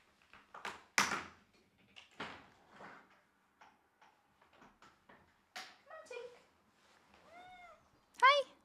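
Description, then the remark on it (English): A cat that has jumped up at a window meows twice near the end, a drawn-out mew followed by a louder, sharper one, after several seconds of scattered tapping, scraping and bumping noises. “Oh my God, my cat just jumped up at the window. That scared me.”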